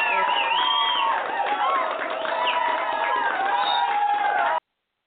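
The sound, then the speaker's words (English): An audience cheers and claps at news that their broadcast has had over 4,000 listeners, a loud, steady roar of many overlapping voices whooping and shouting that holds for several seconds before stopping abruptly. “That's something to clap for right there.”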